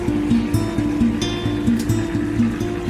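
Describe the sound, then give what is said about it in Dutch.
Steady harbour ambience on the Portuguese coast with a constant low motor drone and rhythmic pulsing, overlaid by soft washing of water and faint higher clatter, heard at moderate loudness with no voices. “Jongens, kijk eens naar die haven.”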